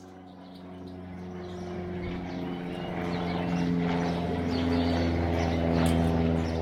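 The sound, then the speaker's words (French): A European goldfinch twitters in a quick, tinkling stream of notes over a steady low engine-like drone that swells slightly louder toward the end. “Tout de suite, place au chant du dernier chanteur du chœur de l'aube.”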